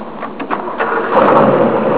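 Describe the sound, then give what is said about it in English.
A car engine cranks with a few quick sputters, then catches and settles into a steady, loud running rumble that builds slightly. “Hear that? Yeah, it's an engine. We'll rev it up.”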